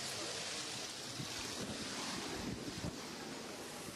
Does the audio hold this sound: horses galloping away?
no